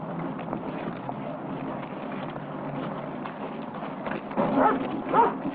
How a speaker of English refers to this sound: With the dog approaching, Evil continues walking toward the store.